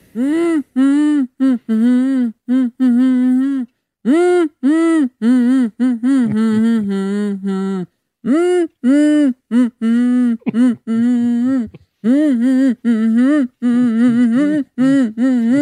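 A man hums a song tune alone, wavering through a string of sustained, mid-pitched notes in short phrases with brief pauses, fairly loud and somewhat off-key.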